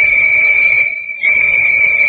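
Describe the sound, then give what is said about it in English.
A loud, steady high-pitched whistle blast sounds continuously, with a brief dip in the middle before it resumes at full strength, no voices present. These are warning whistles blowing before blasting on a job dynamiting through a mountain. “Hear the whistles, Delaney?”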